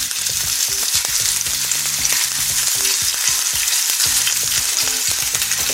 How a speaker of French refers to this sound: Alors, graisse de canard. Et c'est parti, on va mettre les morceaux de poitrine à rissoler doucement.